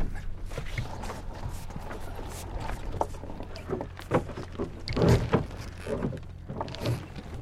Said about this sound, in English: Right, hoist the mainsail, both halyards at once. Up she goes. Everybody keep the heads down. So start to bang about that.